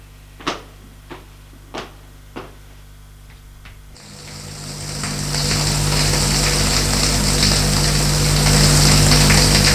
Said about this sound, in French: Il se déshabille. Puis, va dans un salle de bain pour prendre sa douche.